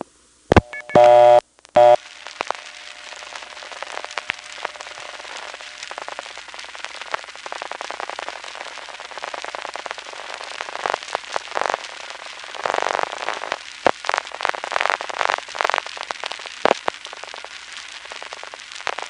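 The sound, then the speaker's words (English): A brief tone at the start gives way to steady crackling, hissy telephone line noise on a Number One Crossbar exchange after one digit is dialed from a prepay coin phone, peppered with clicks and pops that swell and fade, with no voices. “Dial one digit and just listen to the noise on the line.”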